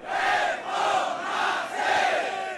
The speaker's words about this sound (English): Reformasi, or reform, chants the crowd of thousands rallying outside Malaysia's high court. It's January 9th, and the crowds are awaiting the verdict in the trial of opposition leader Anwar Ibrahim.